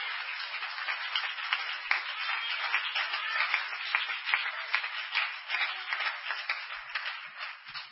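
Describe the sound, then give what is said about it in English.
An audience claps hands together for several seconds, a dense, steady patter of many overlapping claps with no one speaking. “Clap your hands anyway.”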